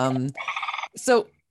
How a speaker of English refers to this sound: So that beautiful trumpeting sound, is that one of the louder bird calls, or is there something special about their anatomy that allows the sound to travel so clearly?